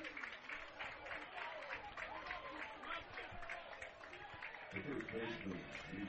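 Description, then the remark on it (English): A George Mason baseball crowd claps steadily for several seconds after Connor Dykstra's two-run home run makes it 3-2, a dense, continuous patter of applause with a man talking over it throughout. “You can hear the crowd from George Mason giving him a hand.”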